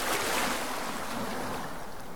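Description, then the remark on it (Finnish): Steady wash of waves along the shore of the Sea of Galilee, a continuous, fairly loud rushing hiss with gentle surges and a touch of wind, no voices present. “Siirrytään nyt yhdessä 2000 vuotta taaksepäin Galilean meren rannalle.”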